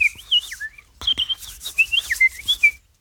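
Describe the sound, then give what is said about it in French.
Someone whistles an imitation of sparrows returning into bamboo at nightfall to find a place for the night: a fairly loud run of quick warbling, sliding chirps with a brief pause midway, and no talking. “Et j'écoutais les moineaux qui rentraient dans les bambous, là, qui allaient chercher une place pour la nuit.”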